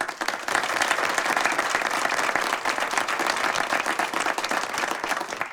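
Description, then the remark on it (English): Sustained applause from an audience, led by the first speaker, many hands clapping in a dense, steady wash that stays loud and even for several seconds with no voices standing out. “The first speaker leads the applause.”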